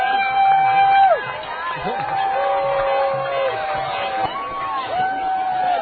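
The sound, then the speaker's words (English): A street crowd of about 700 people roars and chatters continuously, with two police officers present, overlapping shouts and whoops rising above a dense, steady wall of voices, and scattered high-pitched yells cutting through. “We got half two cops have shown up to quell the crowd of 700 people.”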